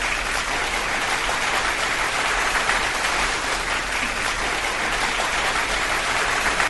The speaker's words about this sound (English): God, this... Sound effects are so incredibly boring. It was an applause.